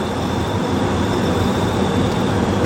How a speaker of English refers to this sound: There's train tracks and they just fucking walk across the tracks and they don't look left or right, they don't notice what's going on, and there's a fucking train coming and they just get run over.